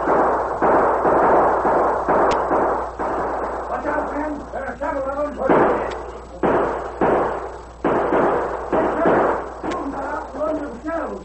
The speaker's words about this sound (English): As the Lone Ranger watched, the posse neared the cave. Then suddenly he heard shots. Those shots came from that cave.